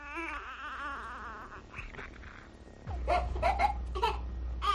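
A newborn baby cries in high, wavering wails, the sobs breaking into short bursts near the end over a low steady rumble, fairly loud.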